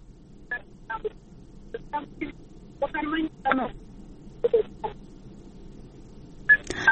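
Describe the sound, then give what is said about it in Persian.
A series of short telephone keypad tones dialed in irregular bursts as technical staff try to reconnect a radio listener whose phone call dropped, clear over a low background hum, ending with a brief higher electronic chirp. “ما باز هم همکار تکنیکی کوشش میکنه که شنونده را با خود داشته باشیم.”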